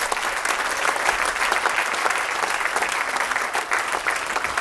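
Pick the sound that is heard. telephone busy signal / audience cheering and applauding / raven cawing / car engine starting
audience cheering and applauding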